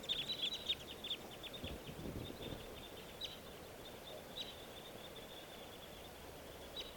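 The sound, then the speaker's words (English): Two red crossbills take off and join three others, the flock giving sharp, clipped flight calls, a quick burst of chips at first that thins to scattered, fainter notes as the birds move off up a creek. No one speaks. “The two crossbills just took off, joining a flock of three others.”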